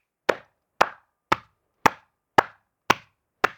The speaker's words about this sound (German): Und mir auf die Beine patschen.